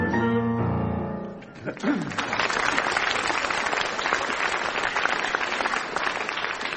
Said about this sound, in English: You applauding, you or him?